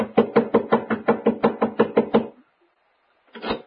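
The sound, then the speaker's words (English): A fist pounds hard and fast on the wooden front door of a home in Lakewood, about a dozen heavy, evenly spaced thumps in a row, then a pause before a brief sound at the end. “Within the hour, I was pounding on the front door of the Cartwright home over in Lakewood.”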